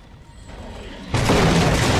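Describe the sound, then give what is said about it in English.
A major explosion blast at a plant with tanks erupts suddenly after a second of low rumbling quiet, blowing Bierko against a car, hitting with a loud, deep boom that swells into a sustained roaring wash of noise. “A major blast blows Bierko against the car.”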